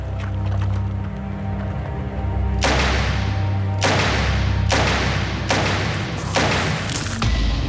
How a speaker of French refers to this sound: Cinq coups de feu.